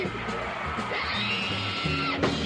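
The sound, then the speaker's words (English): A man lets out a loud, drawn-out scream, rising and straining, over steady live band music with a thumping bass line at a concert in Boston, ending with a sharp burst near the close. “Is it all right if I scream?”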